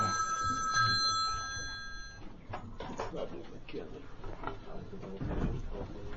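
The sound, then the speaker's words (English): A phone rings with a bright, tonal electronic trill for about two seconds, then cuts off, leaving rustling, handling clatter and low murmuring voices. “Is that my phone? That was mine.”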